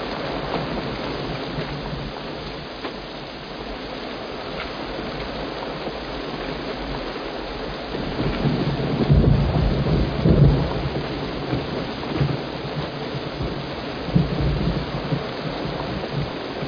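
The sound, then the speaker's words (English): Steady rain pours down in a dense, continuous hiss, with deep rumbles of thunder swelling midway and a few heavier bursts toward the end. No one speaks. “This rain's giving us the edge.”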